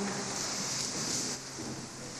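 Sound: rain falling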